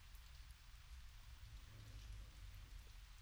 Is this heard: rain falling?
yes